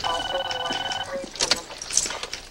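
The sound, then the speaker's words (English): A telephone rings with a steady, bright electronic tone for about a second as a call from a payphone in Paris goes through to the police back home in Chicago, then stops, giving way to clattering, rustling noise and faint background bustle. “Kate steals a payphone from an unassuming French woman and calls the police back home in Chicago.”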